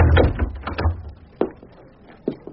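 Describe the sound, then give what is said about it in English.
A study door swings shut with a soft thud, followed by a couple of sharp latch clicks, after a brief low rumble of movement. “Shut the door, please.”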